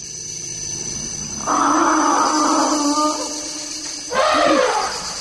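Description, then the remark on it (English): A family of elephants drinking together at a marsh in the Central African Republic gives a long, loud, groaning call followed by a shorter rumbling cry, over a steady high insect-like hum. “This is what it sounds like when a family of elephants drinks together from a marsh in the Central African Republic.”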